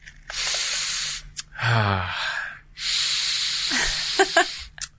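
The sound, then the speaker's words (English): A blindfolded person sniffs a book, Clifford D. Simak's 1967 sci-fi novel The Werewolf Principle: long, breathy inhales with a hissing quality, broken by a brief hummed voice sound, then another drawn-out sniff ending in a couple of short, sharp snorts. “And I want you to sniff the book and tell me what it smells like.”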